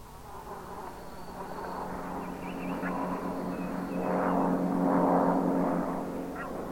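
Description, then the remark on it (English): A steady droning hum of airplanes flying in the sky overhead, softer at first, then growing louder and fuller for a few seconds before easing slightly, with no voices present. “Suddenly, I heard a new sound, the best sound in the world, planes. I heard planes in the sky.”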